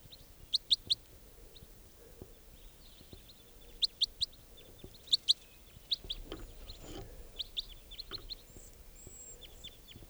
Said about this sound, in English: There's one of the birds captured that sounds just like it. Nothing from the wild one right now.